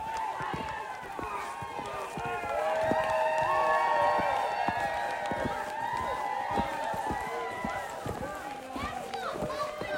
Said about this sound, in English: Bunch of kids playing up on the hill here. Snowball fights, King of the Mountain maybe.